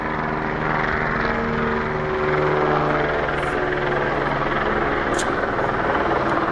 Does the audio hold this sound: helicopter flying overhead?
yes